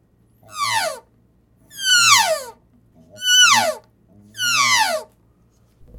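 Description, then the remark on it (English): An elk calf's contact buzz call repeats four times, each a nasal, harmonic-rich cry sliding downward, evenly spaced about a second apart, clear with no talking. “Contact buzz.”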